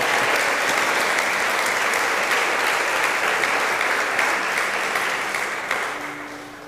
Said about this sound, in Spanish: Dale un aplauso a Jesucristo, hermano querido. ¡Aleluya!